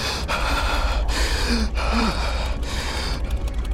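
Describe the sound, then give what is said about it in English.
Hard, ragged breathing of a man trembling and rigid with fear in the dark inside a tank, sharp gasping inhales repeating in quick succession, loud, over the steady low rumble of the tank's engine; no one speaks. “Reeves trembled, breathing hard and rigid with fear.”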